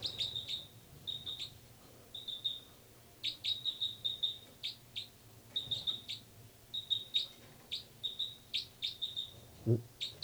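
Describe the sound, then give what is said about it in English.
High-pitched calls of two birds, numbered 305 and 306, trade back and forth in quick bursts of short chirps and trills, 306 answering 305 repeatedly over a low steady background hum, with no talking. “306 responding, 305.”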